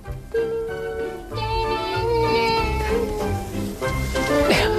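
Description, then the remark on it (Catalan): Voices imitate a smoothly running laboratory machine as a science sound exercise, with steady, sustained humming tones and a low, rhythmic chugging pulse underneath, holding an even, continuous drone for several seconds. “Per exemple, si una màquina funciona molt bé, com la faríeu?”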